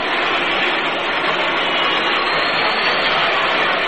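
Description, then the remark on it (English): A group of Cleveland fans at a baseball game boos as the Yankees' Pepitone comes to bat, a steady, sustained roar, a dense wash of many voices that holds at an even, fairly loud level for the whole stretch, with no one speaking over it. “Now the booing you hear, this is a Cleveland group of fans.”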